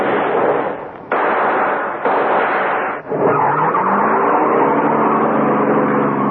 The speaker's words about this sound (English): I shoved that getaway car into gear and took off.